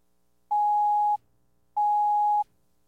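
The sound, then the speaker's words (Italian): A telephone rings with two steady electronic tones, each lasting over half a second with a short pause between them. The tones are clear, with no voices. “Il telefono suonò.”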